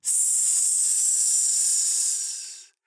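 A loud, steady hiss of escaping air, bright and sustained for nearly three seconds before cutting off abruptly, with no voices.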